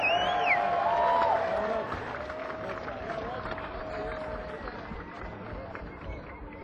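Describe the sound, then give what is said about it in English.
A crowd claps steadily for the drummer, with a couple of shrill whistles and some cheering riding over the applause early on before it settles to an even patter. “Special round of applause here for Jay Davenport on drums.”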